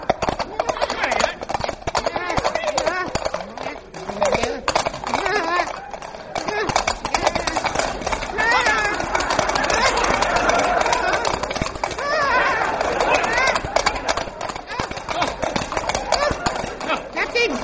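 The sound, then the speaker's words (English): Rapid, rhythmic clip-clop of horse hooves galloping round and round a room runs steadily through the whole stretch, fairly loud, while several voices talk and shout over the pounding beat. “Then why do we keep galloping round and round this room?”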